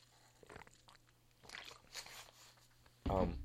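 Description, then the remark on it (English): Soft wet mouth sounds of someone drinking water during a water break, a few quiet sips and swallows spread over a couple of seconds, followed by a voice starting to speak. “I was just trying to drink water.”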